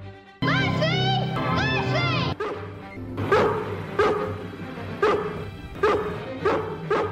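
A dog lets out a drawn-out, whining yelp, then breaks into a run of loud barks, about six sharp woofs coming in a loose, uneven rhythm.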